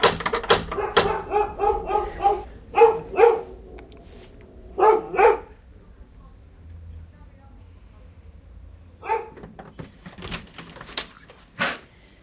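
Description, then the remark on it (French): A female dog barks excitedly after a knock at the door, in quick clusters of sharp barks for several seconds, falls quiet, then a few more abrupt sounds follow near the end. “Est-ce que ma chienne a envoyé parce que vous avez frappé à la porte, je pense.”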